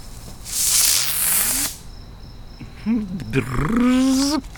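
A burst of breathy hiss with a rising tone, then a voice doing a buzzy, wavering hum in imitation of a bee, fairly loud.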